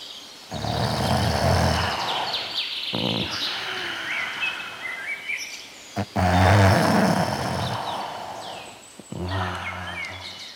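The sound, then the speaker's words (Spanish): Deep, rumbling snores from a wolf sleeping under a tree repeat in slow cycles a few seconds apart, loud, while birds chirp and twitter steadily in the background. “Un poco más allá, vio al lobo roncando bajo un árbol”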